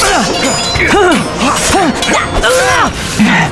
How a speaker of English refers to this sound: The young warrior heard nothing but the near-constant ring of metal as he and his shaven-headed opponent exchanged vicious and furious flurries.